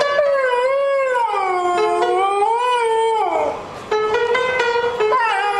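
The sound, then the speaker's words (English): Dinky, a singing dingo, howls in long, wavering, gliding tones while he strikes piano keys now and then to sing to tourists at the Stewart's Well Roadhouse, ending with held piano notes under a fresh rising howl. “On any day over the last 12 years, this is the sound you'd probably hear howling out of Jim's place at the Stewart's Well Roadhouse.”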